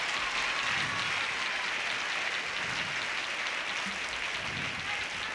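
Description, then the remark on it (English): A steady wash of audience applause for the violin players, dense hand claps blending into a continuous noisy roar that holds at an even, moderately loud level throughout with no talking. “Give the violin players a big round of applause.”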